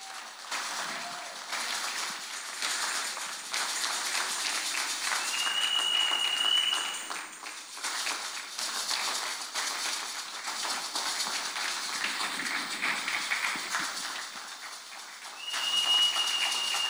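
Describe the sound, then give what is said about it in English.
An audience at a Grace Assembly church service claps together in a dense, sustained round of applause that holds steady and fairly loud throughout, with a couple of brief high whistling tones rising above the clapping. “I honestly thank you for your clap, for your clapping, but that's not what I want.”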